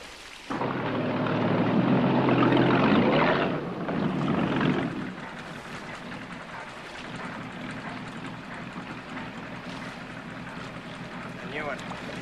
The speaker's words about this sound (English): The little boat!